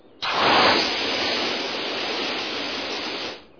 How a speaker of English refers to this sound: I'll use these spray cannons, jetpacks, and fly to safety.